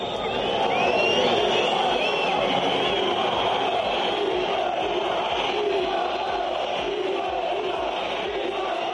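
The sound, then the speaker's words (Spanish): A loud crowd at Mestalla stadium jeers and shouts insults at referee Gil Manzano, who officiated the Valencia versus Almería match, in a steady, unbroken roar, with shrill whistles cutting through the mass of voices throughout. “Insultos y gritos contra el colegiado que dirigió ese partido entre el Valencia y el Almería.”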